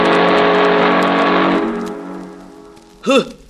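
A loud, sustained freight-train whistle blares over a rushing engine rumble for about a second and a half, then fades away. A brief, swooping toot follows near the end.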